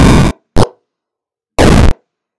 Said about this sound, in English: And then lastly, when something hits the left or the right side of the screen. So we'll go to explosion.